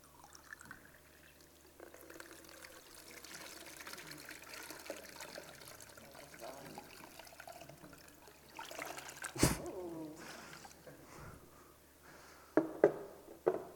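Water pours steadily into a jug for several seconds, a continuous trickling rush that builds until it runs over, with a few sharp knocks and splashes near the end.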